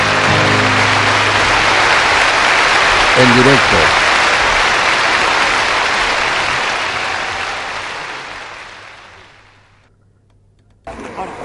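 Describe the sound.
A large crowd claps in a dense, steady roar that gradually fades away, with a brief spoken phrase over it early on, then a short silence before another sound cuts in.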